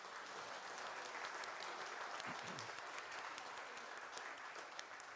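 A crowd applauds steadily to welcome someone, dense and continuous clapping filling the space for several seconds at an even level, with no voices standing out above it.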